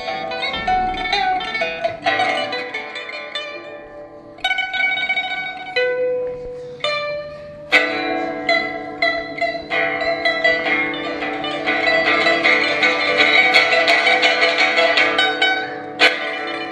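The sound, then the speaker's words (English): A pipa, an ancient Chinese instrument, plays the classical piece The Spring Snow, a flowing melody of bright plucked notes with sharp attacks ringing over sustained tones, the phrases growing busier and fuller toward the end, with no talking. “The piece I'm playing is called The Spring Snow.”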